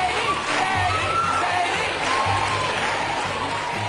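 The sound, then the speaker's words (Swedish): A studio audience and Oprah scream and cheer loudly and continuously on Oprah's show in 2005, shouting Katie Holmes's name as Tom Cruise rushes backstage to fetch her; a dense wall of overlapping voices and whoops with occasional higher shouts cutting through. “Medan publiken och Oprah skriker hennes namn, rusar Tom ut i kulisserna för att hämta henne.”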